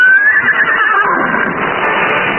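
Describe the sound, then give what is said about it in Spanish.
About a hundred riders in black robes gallop toward them on horseback: a loud, high, wavering whinny opens over a thick, continuous rumble of hooves that keeps going steadily to the end, with no talking. “Cuando Calimán se da cuenta, un centenar de jinetes envueltos en túnicas negras los rodean y se lanzan a todo galope hacia ellos.”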